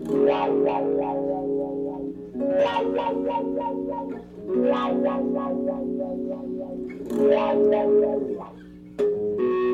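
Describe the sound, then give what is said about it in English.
A heavily effected electric guitar buzzes with distorted white noise and noisy sustained chords, played in several long phrases separated by brief dips, loud, with no one speaking. “This is going to buzz. You're going to hear it. It's great. It's funny. Look at this. Oh, I love that white noise.”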